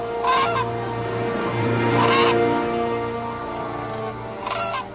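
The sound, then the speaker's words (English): Cranes bugle in three loud, brassy bursts spaced a couple of seconds apart, ringing out clearly over a steady low background hum. “When we hear his call, we hear no mere bird. We hear the trumpet in the orchestra of evolution.”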